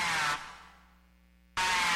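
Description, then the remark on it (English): Aggressive snarl of an Eastern Fighting Turtle, a North American turtle: two loud bursts of harsh, breathy hissing roar, split by a second of fading quiet, with no voices. “The aggressive snarl of the Eastern Fighting Turtle can carry for up to 5 miles across still water.”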